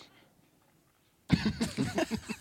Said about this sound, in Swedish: Jag kommer hosta rakt i den här micken.